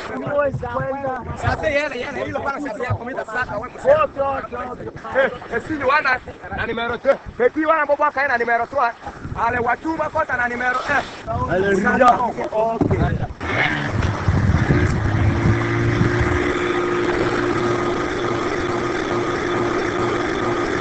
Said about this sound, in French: Et voilà, là on a tout de suite deviné que c'était le bruit du moteur, hein, d'un bateau, hein, certainement